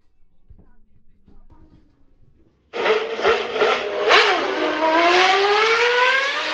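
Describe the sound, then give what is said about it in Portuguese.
For the motor programme Escape Motor on 103.4 FM: after a few seconds of faint low rumbling, a car engine bursts in loud, revving hard with its pitch climbing steadily until the end. “¿Te gusta el motor?”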